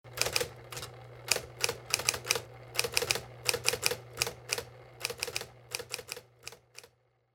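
Rapid, uneven clacking of keys striking on a manual typewriter, fairly loud, with a steady low hum underneath and no voices.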